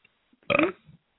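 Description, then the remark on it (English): A single loud, throaty burp rumbles for about half a second, then trails off into a softer grunt before silence. “I burped. It felt good.”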